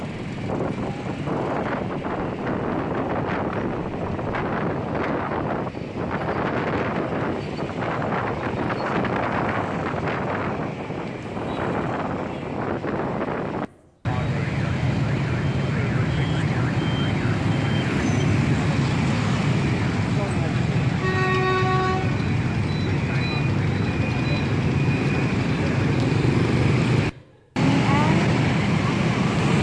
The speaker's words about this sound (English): And it's estimated on a daily basis, 8 million motorbikes work their way through Saigon. You don't really know what that's like, so I thought I'd give you a little glimpse.